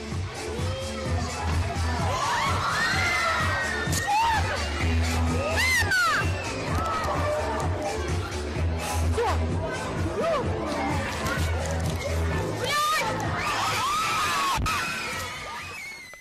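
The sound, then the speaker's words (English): A dense crowd of children at a circus in Ukraine shouting and screaming in chaotic overlapping voices after a circus bear got off its leash and jumped into the crowd, loud and sustained throughout, with shrill cries rising above the din and a few sharp bangs. “It jumped into the crowd full of children. Chaos ensued.”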